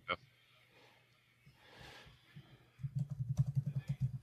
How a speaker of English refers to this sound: Sorry, listeners. I'm typing. This is great fun for you.